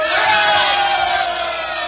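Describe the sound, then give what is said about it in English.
A large election crowd in the town of Eatanswill roars and cheers for Slumkey in a loud, sustained wall of shouting voices, steady throughout with no pauses. “A cheer for Slumkey!”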